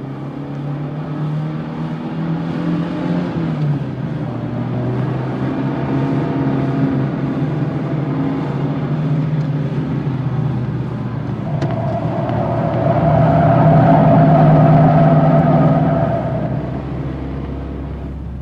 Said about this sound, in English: La grosse limousine quitta en trombe le motel de San Fernando Valley et prit la route de Los Angeles.